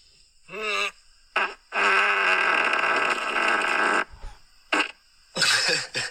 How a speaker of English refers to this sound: Like, that's a lot of sound from one bump. It sounds like it's angry at something. Yeah. It's like a fart yell.